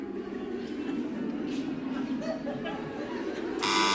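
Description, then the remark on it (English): A quiz buzzer pressed by a contestant sounds once near the end, a loud, harsh, steady electronic tone that cuts in sharply over women humming a tune and voices chattering beneath it. “you buzzed as well.”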